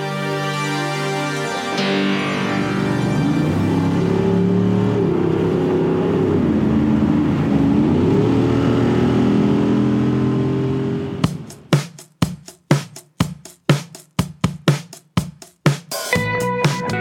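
The engine of an open-top car with an optional canvas top rumbles, its pitch rising and falling through several revs, then gives way to a run of sharp, rhythmic percussive hits. No one speaks.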